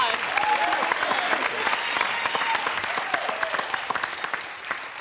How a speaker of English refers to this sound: Applause.